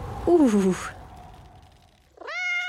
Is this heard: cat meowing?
yes